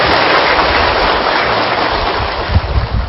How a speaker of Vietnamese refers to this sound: Xin hãy dành những tràng pháo tay thật là nồng nhiệt để ôm đón Hòa Thượng.